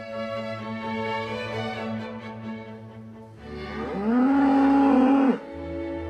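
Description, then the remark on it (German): Sustained classical music tones play for a few seconds in a barn, then a cow lets out one loud, drawn-out moo that rises and holds for about two seconds before cutting off. “Die Kuh mit klassischer Musik im Stall beschallt.”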